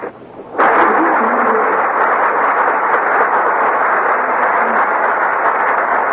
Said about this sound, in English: That applause means our stars have made their appearance on the Gulf Theater stage.